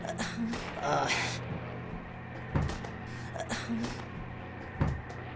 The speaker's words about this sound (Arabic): الباب لا يفتح.